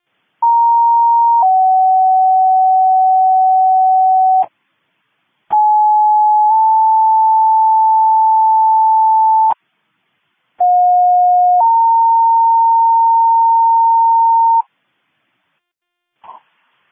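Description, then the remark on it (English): Dispatch county all-call alert tones for the Dickinson County Wildland Task Force to respond to a structure fire at 400 and Hawk: three loud, steady two-tone sequences, each a short pitched beep stepping into a longer held tone, separated by brief silences, with no voices. “As requested by 602, can you do a county all call for the Dickinson County Wildland Task Force to respond to 400 and Hawk operating on TAC 2?”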